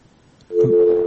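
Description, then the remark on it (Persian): A steady electronic telephone busy tone starts abruptly after a brief quiet moment and holds at an even pitch, fairly loud, with no voices, after a caller's line is disconnected during a radio call-in show. “تماسشان قطع شد متاسفانه.”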